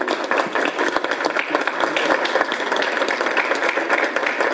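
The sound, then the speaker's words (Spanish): Steady applause from a crowd for the women senators present, a dense, continuous wash of many hands clapping at an even level for several seconds with no voices over it. “Iniciativa que debemos de señalar fue ampliamente impulsada por las senadoras que se encuentran aquí presentes y para las cuales pido un caluroso aplauso.”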